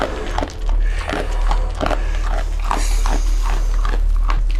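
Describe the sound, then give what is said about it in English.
Wet munching and snuffling from a 9-month-old bear cub eating apple bits and dog kibble out of a man's hand in straw, with repeated crunchy bites and chewing in an irregular rhythm over a low steady hum, with no talking. “is the sound of the bear cub eating out of his hand.”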